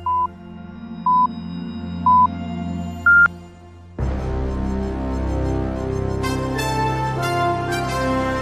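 Four short electronic pips one second apart, the first three identical and the last one higher, a Radio Ognjišče time signal with the last pip marking 18:30, sounding over a soft background hum before a burst of music takes over.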